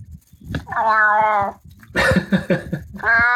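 A cat lets out two long, low, drawn-out meows, the second cut short, with a brief muffled bit of human voice between them.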